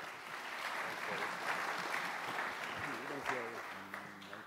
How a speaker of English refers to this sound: Can we give him a clap?